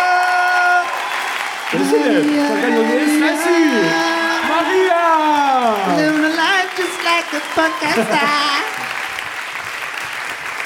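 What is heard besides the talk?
audience applause and cheering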